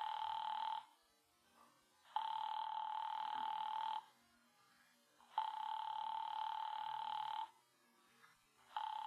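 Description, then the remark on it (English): A telephone rings unanswered on the line as an operator rings a party again, heard as long steady buzzing tones around two seconds each, repeating three times with short quiet gaps between, a fourth just starting at the end. “I'll ring them again.”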